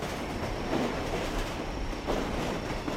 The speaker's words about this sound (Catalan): Un altre tren passa per darrere el taxi, aturat en un descampat.